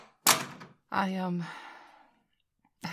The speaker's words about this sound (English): Do you mind if I shut the door? Thanks.